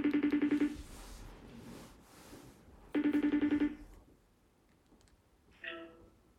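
A telephone ringing tone sounds twice, each burst a rapid warbling electronic trill about a second long with a pause between, followed by a brief higher beep; no one speaks.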